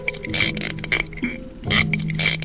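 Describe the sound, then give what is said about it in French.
A spiny lobster's rasping stridulation: about four loud, buzzy creaking bursts in an uneven rhythm, with nobody talking. “une chronique sur le monde sonore animal. Aujourd'hui, la langouste.”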